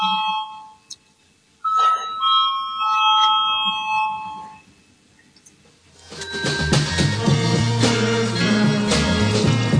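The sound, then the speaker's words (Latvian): A bell rung to call a vote on a committee proposal chimes clearly, a sustained ringing tone lasting a few seconds. After a brief quiet it gives way to a louder, dense wash of sound. “Lūdzu, zvanu.”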